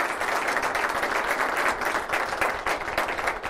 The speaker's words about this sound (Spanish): Más que un aplauso por estos minutos de venir a compartir un par de ideas, yo quisiera pedir un aplauso para BYU por esta invitación y por esta iniciativa. Un aplauso para ustedes.